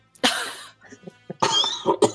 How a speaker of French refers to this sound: Toi aussi, tu tousses. Je suis allergique aux jolies filles